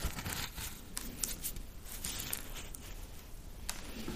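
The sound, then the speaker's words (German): Fine grains trickle steadily from a brown, geometrically shaped, very porous object made of rammed earth, a dense granular hiss dotted with tiny crackles and brief scratchy bursts, holding an even level for about four seconds with no voices. “Also das Rieseln hat man gehört, genau.”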